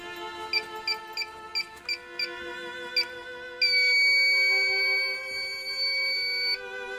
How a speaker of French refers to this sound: C'est l'alarme des toilettes. Si je le fais pas, le premier qui arrive, bing, ça sonne.